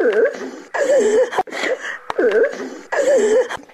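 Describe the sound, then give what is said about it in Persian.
A woman in Faizabad, Badakhshan province, Afghanistan, weeps and wails in grief for loved ones killed in the war, her voice rising and falling in several long, quavering sobbing cries with short catches of breath between them, fairly loud. “در سوگی عزیزانی از دست رفته اش اشک می ریزد.”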